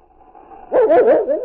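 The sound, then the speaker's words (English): A dog whines softly, then bursts into a quick run of loud, excited, yelping barks at a scent coming through a door, with no one speaking. “Then King went wild. The trace of a scent that came through the door reminded the dog of the end of a summer trail.”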